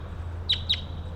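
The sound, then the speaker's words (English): A wild bird gives two quick, high chirps about a fifth of a second apart, each with a brief downward sweep, at 1:14 p.m. under clouding skies, over a steady low hum and faint background noise. “And there's a wild bird coming around now.”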